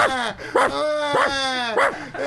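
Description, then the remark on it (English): A dog named Diva barks in a run of about four high, drawn-out yelping barks, each stretching into a whiny, tonal cry, with no talking. “The fucking dog's barking,”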